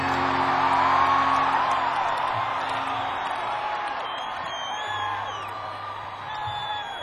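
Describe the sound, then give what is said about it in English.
A large youthful crowd at a concert cheers loudly and steadily, with high whoops and shouted yells rising above a dense wash of voices throughout. “This is one of those crazy youth crowds we've heard about.”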